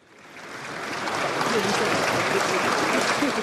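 Sustained applause from a large crowd in Moscow for Russian billionaire Mikhail Prokhorov as he closes the first chapter of his political career, swelling over the first second into a steady, dense wash of clapping that stays loud throughout, with no voices standing out.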